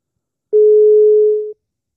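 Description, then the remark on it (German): A single steady telephone ringing tone on a call nobody answers, one flat mid-pitched beep lasting about a second, clear, with silence before and after and no voices. “Geht keiner dran. Es geht keiner ans Telefon.”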